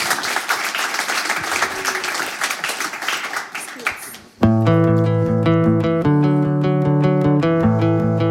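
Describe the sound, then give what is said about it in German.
A crowd claps and cheers in a dense, steady burst of applause for about four seconds, encouraging performers before their live set, before it cuts off and loud live music abruptly takes over. “würde ich sagen, ermuntern wir sie nochmal mit einem Tosen einen Applaus und freuen uns aufs Live-Set.”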